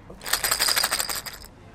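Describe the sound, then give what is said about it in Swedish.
A bell-filled ball used in five-a-side blind football, played by blindfolded players on a pitch with boards, rolls and jingles: a bright, high, rapid metallic tinkling lasting just over a second, with a shaky, rattling rhythm, then falling quiet. No one speaks. “Spelarna har ögonbindel och bollen låter med ett högt pinglande ljud.”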